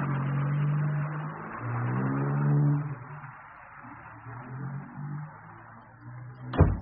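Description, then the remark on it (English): A car engine turns over and revs, its tone climbing in pitch, then settles into a steady lower rumble as it drives off, ending with a sharp thud. “Is my car ready, Farrell?”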